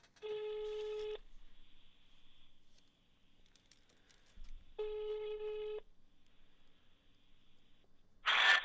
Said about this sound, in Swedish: Vi gör så att vi ringer en beteendevetare helt enkelt.